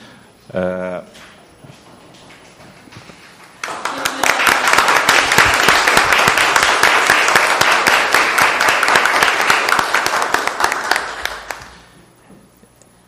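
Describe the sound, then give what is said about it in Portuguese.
An audience breaks into sustained applause after unanimously approving the pedagogical project of a UFABC specialization course in African and Afro-Brazilian studies: many hands clapping in a dense, steady wash for about eight seconds before tapering off. A short voice is heard just before it starts. “Depois de devidamente aprovado e aplaudido, eu vou fazer um comentário.”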